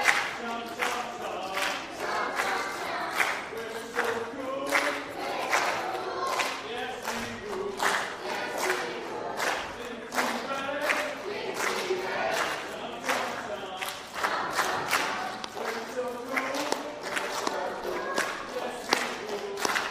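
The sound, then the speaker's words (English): The green team in a competition cheers and shouts in a loud, sustained roar, with scattered clapping and whoops running through it without a break. “if you're saving a cheer, you can wait till later in the night.”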